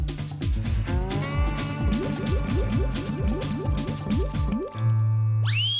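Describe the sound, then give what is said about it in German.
A cartoonish sound effect of pouring rain: a steady, rhythmic run of wet drips and splashes, about two per second, loud, ending with a held tone and a quick rising whoosh. “Und nur schüttet es wie aus Eimern.”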